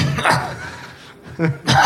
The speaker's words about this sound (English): See, it's just a cough.